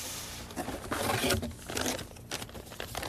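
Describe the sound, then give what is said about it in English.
Crisp rustling and crinkling of a regular paper bag being handled and cut to make a mask, with irregular bursts of crackle lasting a few seconds and no talking. “I'll just make a paper bag mask right now.”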